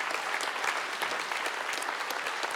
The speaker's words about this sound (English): if you serve regularly at this campus, if you're one of those 773 or at another campus, I would love to invite you to stand so we can clap at you. So please stand. We are so thankful for you.